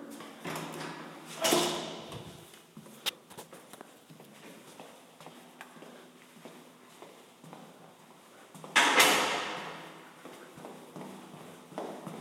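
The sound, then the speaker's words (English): A building door on the main floor opens with a brief whooshing rush, then closes again about seven seconds later, with light footsteps and small clunks in between, and without any talking. “And if I go down another flight, we come to the door on the main floor.”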